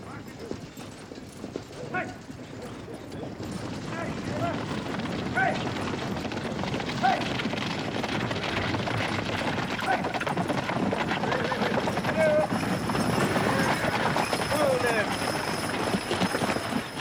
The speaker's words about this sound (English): A stagecoach rolls toward town.